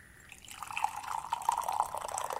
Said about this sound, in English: Oh, listen to those frogs.